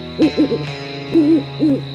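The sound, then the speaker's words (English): An owl hoots in a rhythmic series, a quick cluster of wavering calls followed by two longer hoots, clear, over a steady low nighttime hum with no voices. “She heard the sound of crickets and the hooting of an owl.”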